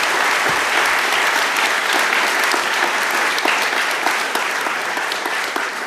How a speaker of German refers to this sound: Ja, dann klatscht doch erstmal.